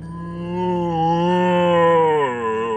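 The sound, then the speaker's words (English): A zombie lets out a long, low, dreadful moan, holding a steady droning pitch before wavering and sliding downward at the end, with no other sounds. “Oh, it's letting out a dreadful moan.”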